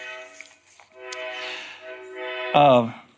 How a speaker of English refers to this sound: Well, we're competing with the train here tonight.